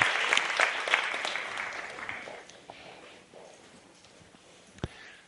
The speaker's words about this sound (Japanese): Let's give them a 頑張って。 はい、励ますの拍手ありがとうございます。